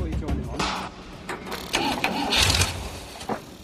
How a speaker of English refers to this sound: Dick's keen to start the engine to check their emergency kill switch is working.